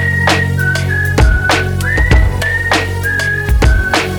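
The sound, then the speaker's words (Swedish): A clear whistled melody of sustained, sliding tones rides over a steady beat with thumping bass hits, the whistle up front and fairly loud. “Du har hört den förut så du visslar med mig ba.”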